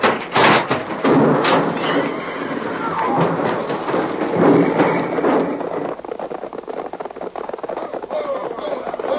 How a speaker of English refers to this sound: It's a wagon. It's my stage. They pulled it out. I can't stop. The brake. It don't work. We're going to crash. Pull over to the side. Too late. I'm going to jump.